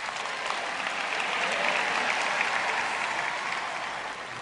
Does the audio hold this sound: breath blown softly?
no